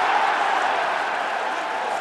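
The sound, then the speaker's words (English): A huge stadium crowd at an American football game at Wembley roars in a steady, dense wall of cheering as New York Giants' Eli Manning runs into the end zone for a touchdown against the Miami Dolphins, staying loud throughout, with no individual voices standing out and no one speaking. “If New York score on this play, you hear the cheer that goes up.”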